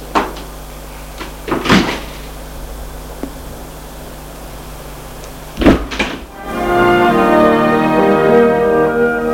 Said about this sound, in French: Et Frédéric ouvre une porte.